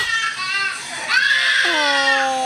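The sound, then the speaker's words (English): A little boy screams and wails while being showered, his cry loud and high-pitched, rising and falling in long, strained bursts over a steady hiss of running water. “Last night getting showered.”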